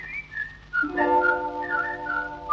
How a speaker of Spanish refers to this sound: La llamada que se escucha en el arrabal, una pausa, se abre una puerta, sale una piba, la de la señal. De vereda a vereda, la contraseña se desliza en la oscuridad, el silbido clave porteña que ella esperaba con tanta ansiedad.